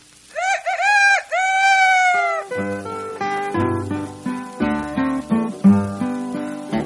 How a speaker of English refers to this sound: I love my rooster, my rooster loves me. I love my rooster by the cottonwood tree. My little rooster goes cock-a-doodle-doo.